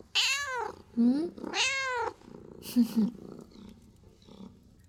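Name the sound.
cat purring and meowing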